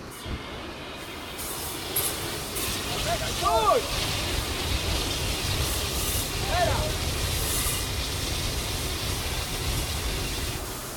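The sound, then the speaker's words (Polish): A steady, loud hissing roar of water spraying from a fire hose onto gas flames in a volunteer fire brigade training exercise, the nozzle operator pushing the flames aside so a teammate can close the gas valve; continuous throughout, with a couple of brief voices calling out beneath it. “Jeżeli prądownik odciągnie płomienie rozproszone prądem wody, to pomocnik roty spróbuje ten zawór zakręcić.”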